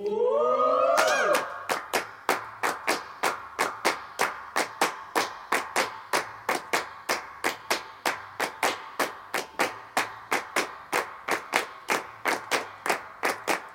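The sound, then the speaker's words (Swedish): Steady, evenly spaced handclaps and alternate handclaps recorded for a song, done while party backing vocals were added, repeat in a quick rhythm, sounding layered like several claps stacked together, after a brief swelling tone at the start; no one talks. “Okej, nu kommer det bli handklapp och alternativa handklapp som vi gjorde samtidigt som vi la lite partykörer.”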